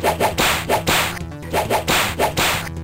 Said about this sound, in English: Don't try that whip thing on me.